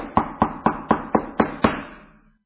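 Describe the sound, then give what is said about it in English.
Seven firm knocks on a door in a steady, even rhythm, clear, with a short echoing decay after the last one and no voices. “Do you hear Him knocking?”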